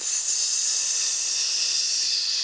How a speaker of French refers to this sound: Alors, vous m'avez parlé vraiment tout à l'heure de ce sifflement de la terre qui s'ouvre.